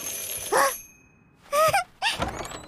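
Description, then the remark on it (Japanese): A dog lets out three short, high-pitched yips with brief pauses between them; the last two come in quick succession. No one speaks. “こんばんは 犬さん。”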